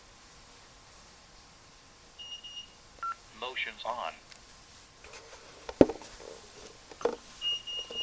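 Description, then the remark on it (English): Short, high-pitched electronic tones like keypad dialing beeps, followed by a series of brief sharp beeps from a Simon home security panel as the system is armed with doors and windows on. A person speaks briefly amid the tones over faint background hiss. “So now if you can hear it, the system is arming itself.”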